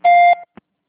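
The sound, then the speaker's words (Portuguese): A single loud, steady electronic beep, a voicemail tone signal, holding one high pitch for about a third of a second, then briefly fading and followed by a short soft click. “Por favor, deixe sua mensagem após o sinal.”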